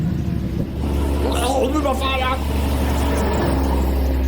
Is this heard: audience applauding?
no